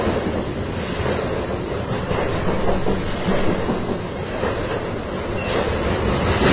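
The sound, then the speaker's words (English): A long freight train of well over 100 cars, all carrying one dry, top-loaded material, rumbles steadily past, a continuous loud roar of rolling cars with faint, irregular clanks woven through, and no voices. “This is definitely all for one material, a dry, top-loaded material. Yeah, it's amazing to me. I'd be sitting at a crossing waiting for all this.”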